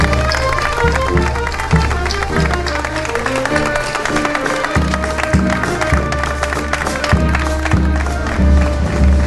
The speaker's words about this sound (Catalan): fort aplaudiment a Lídia Roquetes i moltíssimes gràcies per venir.